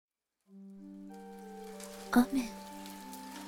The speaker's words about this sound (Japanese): 雨 が降り始めた。雨はしとしとと降り注ぎ、地面を濡らしていくのだ。